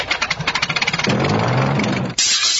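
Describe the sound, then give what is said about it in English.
The engine of Snoopy's Sopwith Camel biplane starting: about a second of rapid, chugging sputters that catch into a loud, steady, rumbling roar, with a brief dip and shift in tone near the end. No one speaks. “He's probably getting ready to take off in his Sopwith Camel on the next dawn patrol.”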